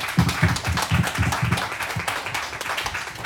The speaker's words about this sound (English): The Mean 19. One last round of applause for these seniors, folks.